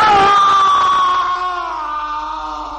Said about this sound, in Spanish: Un grito de dolor y agonía llegó procedente del dormitorio